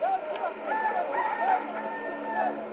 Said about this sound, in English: And at the moment of that third denial, the cock crows, fulfilling something that Jesus himself had prophesied at the Last Supper.